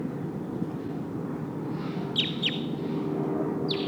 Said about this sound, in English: Oh, sounds like one of the Sitkensis birds is here in the trees.